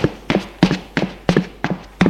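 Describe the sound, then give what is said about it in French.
Two people climb a staircase to the first floor of a small apartment building on rue Bouteille in a steady, even rhythm, six firm treads in about two seconds. Each is a sharp knock with a brief scuff, and there are no voices. “Ils montent au premier.”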